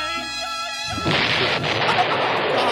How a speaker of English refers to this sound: That was so loud. So loud. It's an explosion. It's not supposed to be quiet.